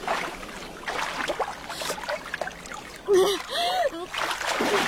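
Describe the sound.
Sea water splashes and washes steadily against the shore in a continuous, fairly loud wash, with a couple of brief voiced strains or grunts cutting in near the end.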